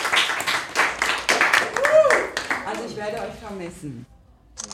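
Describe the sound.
Loud clapping from a group rings out for about two seconds, then fades as a voice starts talking over the last scattered claps.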